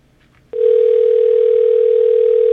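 A telephone ringing tone on the line: one steady, loud, mid-pitched tone held for about two seconds, then cut off, with no voices.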